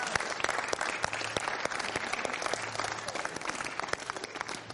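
A studio audience applauds steadily throughout, dense clapping from many hands filling the room at an even, sustained level without a break.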